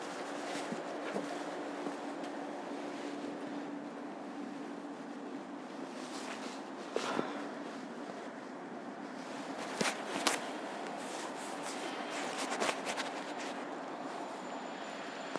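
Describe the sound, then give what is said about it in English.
Steady, even rumble from inside a moving, remarkably empty train carriage, with a low constant hum and a few sharp clunks and rattles now and then. Nobody speaks. “Well, now sitting on a remarkably empty train.”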